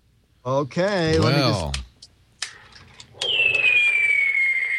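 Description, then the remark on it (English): Electronic fireworks effect from a toy fireworks projector, You're in the Room by Uncle Milton: warbling, rising whistles, a short pause, then scattered crackles and a long, steadily falling whistle, loud, with no talking. “it's a fireworks projector.”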